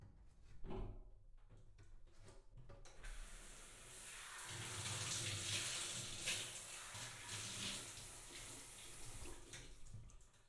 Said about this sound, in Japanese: シャワーの温度はいかがですか？